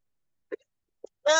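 A couple of short, stifled sneezes come about half a second apart, then a louder, fuller vocal burst breaks out at the end.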